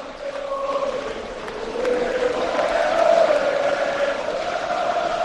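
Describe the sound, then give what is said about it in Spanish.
A Santander football crowd shouts and chants in one continuous roar, swelling louder after about two seconds and peaking midway, with a sustained collective tone running through the noise. “Mira, esos son los gritos de Santander, a ver, vamos a oírlos.”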